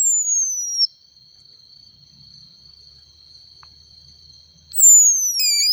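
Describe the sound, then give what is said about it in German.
A frog gives shrill, high-pitched squeaking calls, sliding downward in two loud bursts at the start and end, with a thin steady whine lingering in between and no talking. “So, und jetzt ist das erste Mal, ah cool, das ist neu, dass es ein Frosch kann. So, und okay. Jetzt kommt das Froschgeräusch.”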